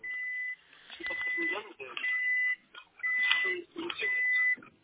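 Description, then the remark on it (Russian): A car's warning chime beeps repeatedly in steady high-pitched tones while the person is driving, sounding through and between the person's talking on a phone call, with short gaps between each run of beeps. “Да, это машина пикает, я в машине просто еду.”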